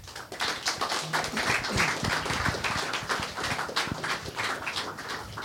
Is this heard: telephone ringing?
no